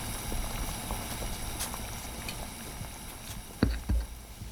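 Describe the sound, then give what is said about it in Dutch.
Salt-tolerant potatoes boil in a small pan of lightly salted water in a kitchen, a steady low churning with faint crackles, joined near the end by a couple of louder knocks, with no one speaking. “Nou, daar liggen ze te koken in het pannetje.”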